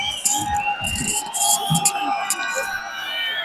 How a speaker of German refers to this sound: Der Stadionsprecher der Spartans tut nochmal das Publikum anheizen. Auch die Cheerleaders.